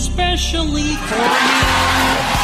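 A brief melodic, voice-like tone opens, then a loud wash of crowd cheering and applause swells up and fills the rest, dense and close.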